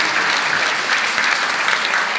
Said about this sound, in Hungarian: Tetszett az előadás, és kérem szépen, hogy egy tapsot még egyszer a magunk érdekében is adjunk az előadónak.